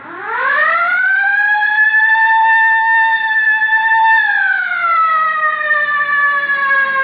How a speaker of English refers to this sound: All right, hit the siren.